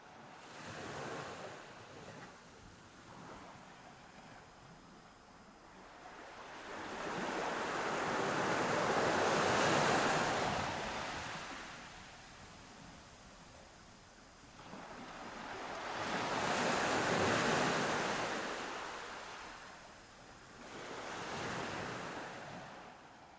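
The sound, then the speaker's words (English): Ocean waves and surf in the coastal waters of the Northeast Pacific Ocean swell and recede in slow, broad surges, three big washes of noise rising and fading over about twenty seconds, with a steady wind-like hiss underneath and no voices. “And my last exhortation to you is that you give your mind permission to wander and journey with me into the coastal waters of the Northeast Pacific Ocean, where the sunflower sea star resides.”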